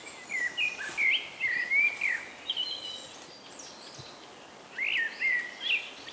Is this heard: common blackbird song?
yes